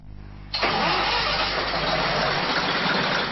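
A vintage Budapest HÉV suburban railcar, over 100 years old, withdrawn from daily scheduled service in 1972 and now run as a nostalgia service, starts up: a low idle hum gives way half a second in to a sudden loud, steady mechanical roar that carries on without a break. No one speaks.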